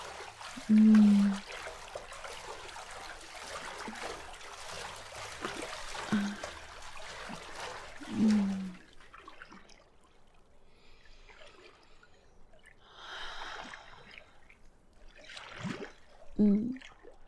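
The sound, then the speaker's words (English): Water in a pool trickles and pours steadily for several seconds, then gives way to scattered splashes and gentle sloshing bursts, with a few low thumps and no voices. “Oh, the water does feel amazing, doesn't it?”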